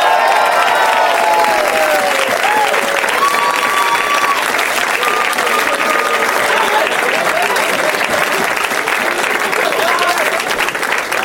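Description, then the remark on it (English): Sustained studio audience applause as comedians Sean Cullen, John Doerr and Patton Oswalt are welcomed onto a talk show, a dense, steady wash of clapping at full loudness throughout, with a few cheers and whoops rising above it. “Or they're just trying to milk the applause.”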